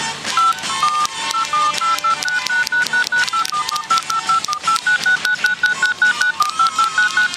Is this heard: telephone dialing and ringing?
yes